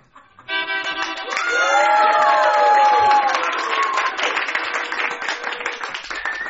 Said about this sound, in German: Die Philharmoniker beginnen den ersten Takt und alle klatschen. Nochmal. Mit mehr Inbrunst.